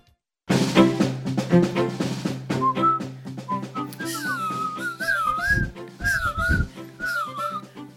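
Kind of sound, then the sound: human body sound, person whistling a tune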